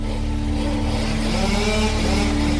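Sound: chainsaw running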